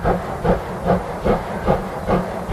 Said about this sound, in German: Die kleine alte Dampflok ist museumsreif, ausgemustert.